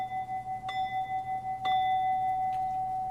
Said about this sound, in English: I'll ring the bell 3 times.